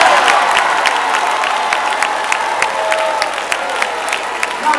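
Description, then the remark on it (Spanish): Sustained audience applause for Dr. Bill Winston, a dense steady patter of many hands clapping at an even loudness throughout, with faint crowd voices mixed in beneath the clapping. “Ahora vamos a aplaudir para el doctor Bill Winston.”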